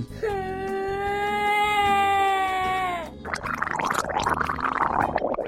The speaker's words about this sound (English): That was supposed to be a drowning baby.